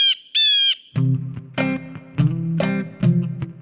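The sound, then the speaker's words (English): Harsh, raspy calls of a flock of blue jays arriving together ring out in a quick series of loud squawks, starting with two high, piercing cries followed by several noisy, clamoring screeches with no talking. “After 15 minutes or so, the blue jays all come in mass, like a band of ruffians.”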